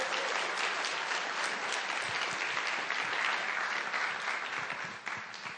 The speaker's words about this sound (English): Let's give her a big round of applause, shall we?